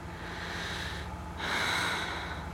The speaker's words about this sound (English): I took a deep breath.